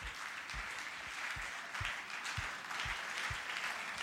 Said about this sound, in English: Let's give him a round of applause. Slow clap, slow clap, slow clap.